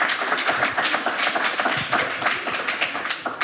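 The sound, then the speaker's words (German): An audience applauds Ludger Derenthal, head of the Museum für Fotografie, with a dense, steady wash of many hands clapping at once. It holds at an even, fairly loud level for a few seconds with no voices over it. “Ein Applaus nochmal für Herrn Derenthal.”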